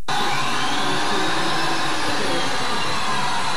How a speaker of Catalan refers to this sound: Que estan a punt de començar a gravar i comencen a taladrar el pis del costat. I passa això. Les obres.